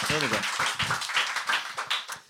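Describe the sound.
An audience applauds with dense, steady clapping for a couple of seconds, while a voice speaks briefly over the start; the applause then tapers off quickly at the end.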